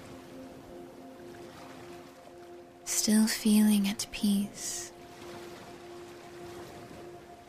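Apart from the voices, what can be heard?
ocean waves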